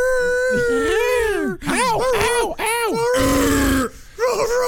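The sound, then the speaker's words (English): A loud werewolf howl: a long wavering cry followed by a series of shorter rising-and-falling groaning wails, with a harsh, gravelly edge near the end. “I got a new dog for you. That's not a dog.”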